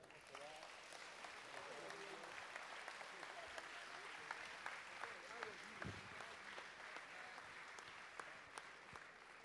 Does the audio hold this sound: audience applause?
yes